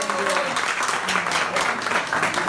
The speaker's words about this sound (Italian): Grande applauso.